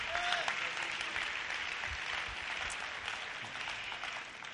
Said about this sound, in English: Give Jesus another hand clap.